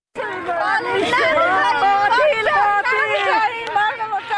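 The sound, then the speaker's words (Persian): Relatives of people shot dead three days earlier in Ghor province, Afghanistan, mostly women and children, shout and cry out together in the streets demanding justice, a continuous, overlapping roar, loud and sustained, with raised, strained voices rising above the mass of chanting and yelling. “اینها فریادهای کسانی است که سه روز قبل عزیزانشان را در حالی از دست دادند که مصروف پیدا کردن لقمه نان برای فامیل هایشان بودند.”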